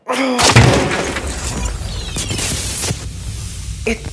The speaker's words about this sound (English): Look, a control panel. Seems brand new. There's a bunch of wires and plugs under here. Yank them out. Shut it down. Let's trash the joint. Yes. Stand back. I'm gonna use this chair.